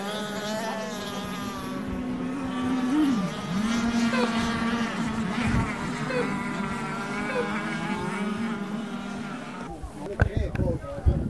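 Several small high-revving motors of racing model motorboats whine and buzz steadily, their pitches shifting as two yellow boats and a red one jostle on the water during an 8-minute race, with a brief splashy burst near the end.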